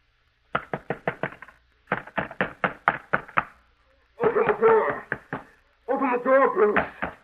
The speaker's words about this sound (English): Open this door. It will be your duty to get him to quiet down. Keep him from pounding on this door.